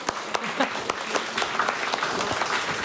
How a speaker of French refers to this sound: Merci pour vos interventions. Je vous applaudis.